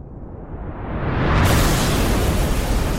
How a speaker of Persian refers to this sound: شام تموم نشده بود که صدای انفجار شیشه های خونه رو لرزون. خانم پرگرین فریاد زد زود باشین زود باشین، آلمانی ها حمله کردن.